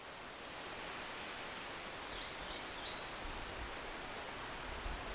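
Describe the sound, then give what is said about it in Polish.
A steady, soft rustle of leaves in a forest at Turtul fills the whole scene, with a brief burst of high bird chirps partway through. No one speaks. “Akurat w to miejsce przyprowadzamy często dzieci właśnie po to, żeby pokazać, jak z naturą można obcować, że można na chwilę umilknąć i posłuchać, jak szumi las, jak szumią liście, jak śpiewają ptaki.”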